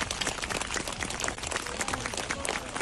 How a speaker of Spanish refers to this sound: Muchas personas se han puesto a aplaudir en recuerdo al opositor ruso fallecido y han comenzado a gritar el nombre de Navalny cuando ha llegado el féretro con su cuerpo.